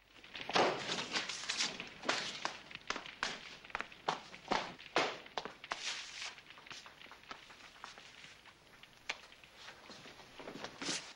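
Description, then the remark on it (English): Feet stamp repeatedly on burning papers on an office floor, a quick, irregular run of firm thuds with a scuffing, rustling texture. The stamps come in bursts, then slow and soften toward the end, with no voices. “Hassan lets the papers burn for a while, then stamps on them.”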